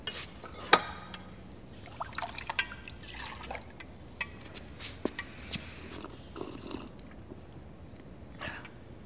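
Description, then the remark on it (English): Water is poured quietly into a cup or glass for a man to drink, a soft liquid trickle broken by small clinks and clicks, low in level, with no one speaking. “Could I have some water, please? Give him water”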